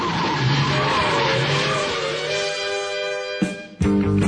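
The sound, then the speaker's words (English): The Batmobile from the 1960s Batman TV series with Adam West tears away with a loud, sustained tire squeal, its shrill layered whine slowly sliding lower, then abruptly cut by a short break and a fresh rumbling burst of engine. No one speaks. “To the Batmobile. Let's go. Atomic batteries to power. Turbines to speed.”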